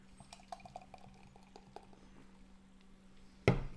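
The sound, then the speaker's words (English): Beer, a Shikari double India pale ale at 7.8%, poured from a 500ml can into a glass: a few light clinks and taps over a low steady hum, then a sudden loud fizzing gush near the end. No one speaks. “So I'll pour you some of that.”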